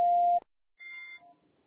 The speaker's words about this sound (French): C'est à vous après le bip.